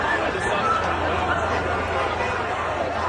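A chaotic crowd at an outdoor event at Utah Valley University, where conservative activist Charlie Kirk was shot, a steady, loud wash of overlapping voices and babble with no single speaker standing out, holding constant for the whole stretch.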